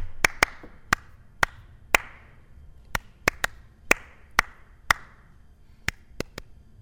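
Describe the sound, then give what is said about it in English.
A rhythm of sharp claps and taps, about fifteen crisp hits grouped in short phrases that trace the Happy Birthday melody's rhythm, played alone with no voices. “I'm going to tap a little, clap a little rhythm for you.”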